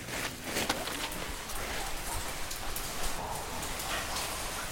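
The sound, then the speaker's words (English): Water drips from the stone ceiling of a dark, echoey, deep cave tunnel into a long pool of fresh water, a steady patter of many drops every few seconds, some sharper plinks standing out over a constant wet hiss; no voices. “A long pool of fresh water would be undisturbed if not for the chorus of drops falling from the stone ceiling every few seconds.”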